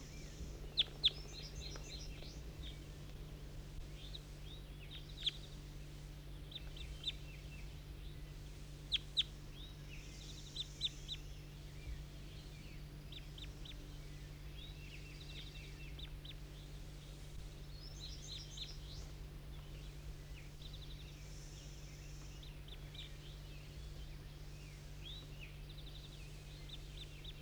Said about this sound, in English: That was bird 19 calling, and the others, 18, I think 22 and 23, took off.